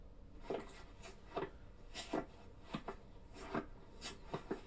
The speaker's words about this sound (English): Sounds like... Footsteps. Door closes.